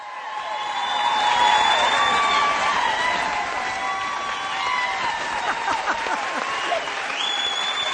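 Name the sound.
theater audience applause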